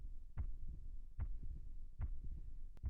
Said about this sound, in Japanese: 心臓の音、少しだけ速くなったかも。ほら、ドキドキ、ドキドキ、ドキドキ。